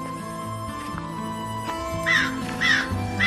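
Two harsh crow caws ring out in quick succession over a steady low droning background, clearly louder than the ambience.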